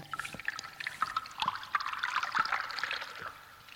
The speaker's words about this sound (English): there's the bamboo filling in with the water and then tipping into the bucket or whatever.